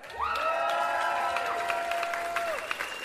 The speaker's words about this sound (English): So, please, let's have a big cheer for an amazing singer,